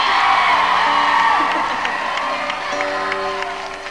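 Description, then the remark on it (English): A concert audience claps and cheers steadily for a band that has announced it will play an old song, dense applause with scattered sharp claps, a few high whoops and shouts rising above it, the roar easing slightly toward the end. “Why are you clapping?”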